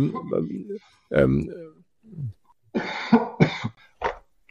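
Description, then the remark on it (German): A series of loud coughs in uneven bursts, some harsh and rasping, mixed with voiced throat-clearing sounds and brief pauses between them. “Lass mich an von meinem Husten, der ist immer so.”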